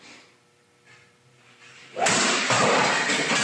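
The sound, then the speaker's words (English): After two seconds of faint humming, a 10-pound practice golf driver smashes into a Keurig coffee machine with a sudden loud crash, followed by a sustained harsh, clattering roar of breaking plastic. “He tweeted, guys, MAGA Twitter is drilling Keurig machines with 10-pound practice drivers.”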